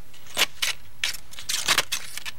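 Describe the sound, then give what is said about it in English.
Scissors snip through cardboard boxes, breaking them down for recycling, in a quick series of about six crisp, crunchy cuts with brief irregular pauses, fairly quiet, with no talking. “She was taking her recycling to her car and was carrying scissors to break the trash down. Okay, that makes sense, right? You're going to cut the boxes up.”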